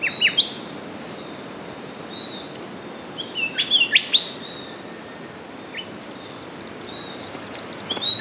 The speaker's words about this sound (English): But what about a forest bird, like a golden whistler?